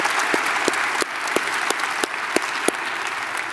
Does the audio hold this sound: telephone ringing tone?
no